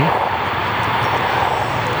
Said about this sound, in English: And so what I'm doing now is flexing my wrist towards myself, and you're sort of hearing that little whoosh sound. So what is that whoosh sound? Yeah, so these are the action potentials